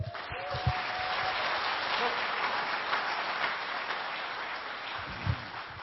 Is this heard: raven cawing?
no